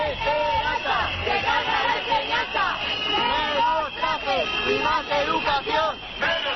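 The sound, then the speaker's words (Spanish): A crowd of protesting teachers shouts and chants against Esperanza Aguirre outside the Fernando el Católico school in Madrid, a dense, loud babble of many raised voices with rhythmic swells that continue steadily throughout. “Gritos contra Esperanza Aguirre que se podían escuchar incluso dentro del colegio Fernando el Católico de Madrid”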